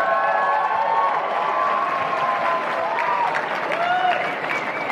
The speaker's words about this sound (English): Golf applause.